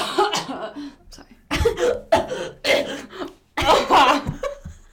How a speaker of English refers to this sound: I got a cough. Sorry.